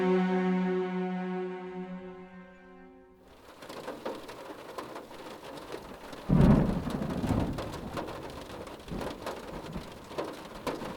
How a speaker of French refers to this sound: Alice patiente dans sa voiture, observant la pluie battante sur le pare-brise.